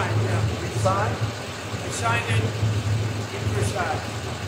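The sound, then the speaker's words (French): A car engine idles with a steady low rumble throughout at Versailles around 1 a.m., while a few indistinct voices speak briefly over it as Donald Trump says goodbye and speaks to journalists before getting into his car. “Il dit au revoir et donne quelques mots aux journalistes avant de monter dans sa voiture.”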